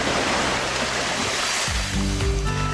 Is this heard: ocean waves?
yes